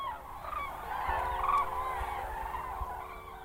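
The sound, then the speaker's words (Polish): A flock of cranes calls in a continuous, overlapping chorus of rolling, trumpeting cries, steady and moderately loud over a low background rumble, with no talking. “Także te żurawie widzimy, ale tak naprawdę to nie wiemy, które to są.”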